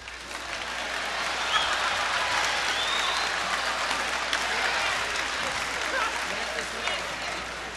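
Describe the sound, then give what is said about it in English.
A crowd at the Monterey Jazz Festival applauds steadily and loudly for several seconds as the trio's pianist, Willie Mays, is introduced, a dense wash of clapping that holds an even level throughout with a few scattered cheers mixed in. “How about a nice, great big round of applause for Willie Mays?”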